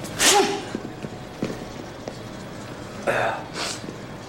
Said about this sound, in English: Allergies, right? Right. Right. Again, I love how he sneezes and everyone looks at him immediately, and then Jack slowly turns around and he's like, we good? We're good? It's all fine.